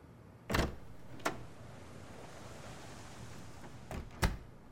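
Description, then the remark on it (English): A door opens and shuts: a solid clunk and a lighter click early on, quiet for a few seconds, then another click and a firm thud. No one speaks. “I think I just heard the door open and close.”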